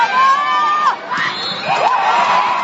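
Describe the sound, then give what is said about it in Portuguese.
A packed crowd at the Chico Neto gym cheers excitedly on a Saturday morning at a men's Superliga volleyball match between Copel Telecom Maringá and SESI São Paulo, Maringá's first home game of the season, in a loud, continuous roar, with long high-pitched shouts or whistles rising above the din throughout. “Manhã de sábado, Chico Neto lotado, torcida animada.”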